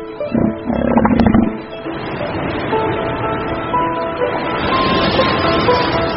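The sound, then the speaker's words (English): Elephant seals, arrived on Macquarie Island after months at sea to breed, bellow and roar in deep, throaty, loud bursts at the start, then a steady mix of calls and tonal noise carries on through the rest. “Macquarie will soon be heaving with 60,000 elephant seals, but they won't have the beaches to themselves.”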